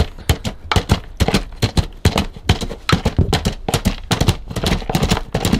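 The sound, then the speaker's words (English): Hoofbeats of a galloping horse, made as a foley effect: loud, sharp percussive thuds in a quick, slightly uneven rolling rhythm that continues steadily throughout, with no voices. “Okay, let's get the horse on a good gallop.”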